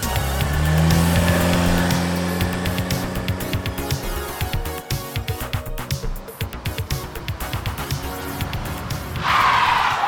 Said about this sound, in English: The crew jumps in their car and speeds off to the Sedgwick Hotel, where a ghost has been sighted.